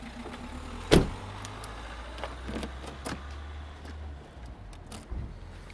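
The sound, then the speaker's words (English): A car key is turned and held in the lock to lock the car and switch the alarm on: a sharp snap, then electric windows hum shut with a low, steady motor whine for a few seconds, followed by faint clicks and ticks. “You did know about the turning of the key to switch your alarm on this, didn't you?”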